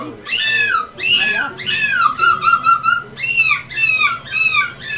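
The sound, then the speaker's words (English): A 10-year-old boy gives his winning seagull screech from a seagull imitation contest with 70 participants from 13 countries. He lets out a string of shrill, wavering screeches and rapid yelping calls, loud and continuous, with brief breaths between bursts. “This was his winning seagull screech.”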